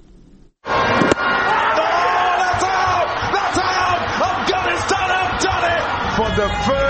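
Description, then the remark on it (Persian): A large crowd of Afghans cheers and shouts loudly in a street celebration in Nangarhar, Khost or parts of Peshawar, after Afghanistan's national cricket team reached the 2024 T20 Cricket World Cup semifinal. It is a dense, continuous roar of many voices with scattered sharp bangs and whistles after a brief quiet start. “صبح روز سه‌شنبه این بازی در نقاط مختلف افغانستان با شادی و هیجان دنبال شد و افغانها این پیروزی را در ننگرهار، خوست و در برخی مناطق پشاور با آمدن در جاده ها جشن گرفتند.”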